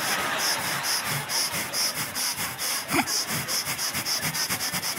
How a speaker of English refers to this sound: And I'm like, oh, I'm getting my breathing in. See, because the average human takes 20,000 breaths a day. So I don't really want to be bothered with breathing later in the day because I'm real busy later today.